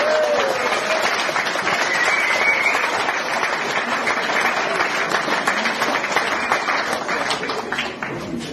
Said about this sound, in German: Herzlichen Dank für deine Unterstützung, für deine Hilfe. Dein Applaus.